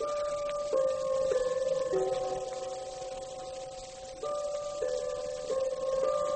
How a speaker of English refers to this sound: That clock on the bookcase there, in 5 seconds, it's going to strike the hour. Now, listen.